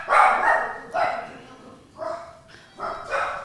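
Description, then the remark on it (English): A dog named Grover barks at a doorbell four times in loud, harmonic bursts, the first one longest, then shorter repeated barks with brief pauses between them, and no voices. “Grover hears a doorbell.”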